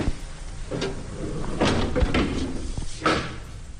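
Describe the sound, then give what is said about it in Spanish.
A heavy, garnet-coloured cell door of very dense metal in a maximum-security prison grinds open with a low rumbling scrape and several loud clanks spread over a few seconds, with no voices. “Se abre esa puerta de la celda, que es granate pesada de un metal muy denso, y entramos”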